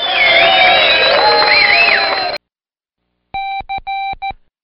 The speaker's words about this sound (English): The home crowd goes wild screaming, "Catch it, catch it!"